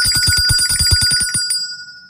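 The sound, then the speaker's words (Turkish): A bright electronic phone ringtone plays a quick, even series of about thirteen pulses with steady high tones, then stops abruptly, leaving a faint hum. “Zil sesinden sonra hem suyumuzu içelim hem de nasıl bir fayda sağlıyoruz bunu dinleyelim.”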